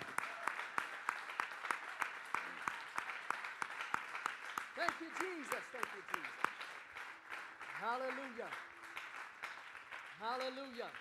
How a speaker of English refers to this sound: You're going to use the gift that God's given you and clap your hands unto the Lord right now in Jesus' name. Hallelujah. Thank you, Lord.